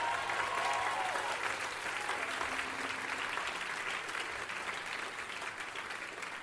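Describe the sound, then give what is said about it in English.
Sustained applause from a large audience for three singers, with scattered cheers and whoops, steady and loud throughout before easing slightly toward the end. “cheer, by the way, for our three singers”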